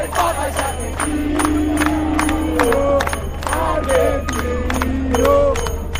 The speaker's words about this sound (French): Il jette un regard désabusé sur l'engouement que suscite le pape parmi les Argentins depuis ce 31 mars 2013 où la foule a dansé et chanté devant la cathédrale.